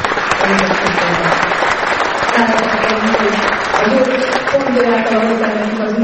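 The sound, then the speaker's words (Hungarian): An audience claps steadily for about six seconds in thanks, a dense, loud patter of many hands, with voices rising over the applause. “Úgyhogy ebben a szent hitben állunk, hogy mindannyian megfutjuk a pályafutásunkat, és egy tapsal megköszönjük az őket.”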